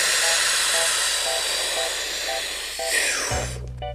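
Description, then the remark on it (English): A deep breath by world champion freediver Tanya Streeter using her freediving breathing technique: one long, loud, rushing inhale of air, a steady airy roar lasting about three seconds before it cuts off and a low hum takes over. “To become a world champion in freediving, Tanya Streeter learned to breathe like this.”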